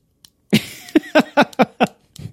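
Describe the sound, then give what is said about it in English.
The plastic lid of an AirPods case clicks repeatedly as it's wiggled back and forth, about six sharp clicks in a quick, slightly uneven rhythm, with no talking. “The old top did move a tiny bit, but it didn't make this satisfying and or annoying clicking sound.”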